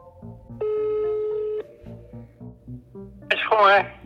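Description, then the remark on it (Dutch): A steady telephone tone of a call placed by students to a witness sounds for about a second over a low rhythmic musical bed, followed by a brief burst of warbling, ringing-like tones near the end. “Na een aantal mislukte pogingen krijgen de studenten alsnog getuige Vroemen aan de telefoon.”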